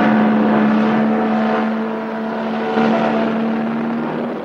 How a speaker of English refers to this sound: As the cars come over the dam, a beautiful sight to see. Gleaming in the early morning sunlight, the cars weave along a narrow, curving road that stretches across the top of the towering dam wall.